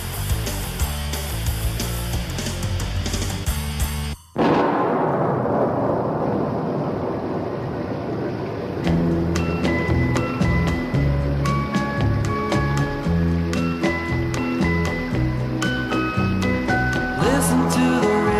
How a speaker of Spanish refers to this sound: ¡Qué bonito el ritmo de la lluvia!